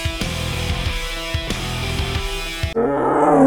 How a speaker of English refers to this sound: Here we have Simone. Simone is a Siberian tiger collected from the birch forest of eastern Russia. She's 6 years old and weighs 629 pounds.